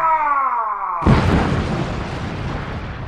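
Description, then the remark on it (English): A falling, whistling tone for about a second, then a loud, sudden bomb explosion that bursts into a broad, rumbling roar and slowly fades over the next two seconds. “The tiny baby pillow has the bomb.”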